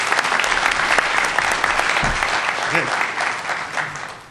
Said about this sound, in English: All right. Now you can applaud. This is good.